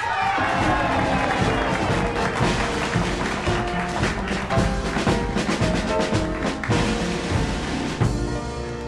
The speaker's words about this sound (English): your applause please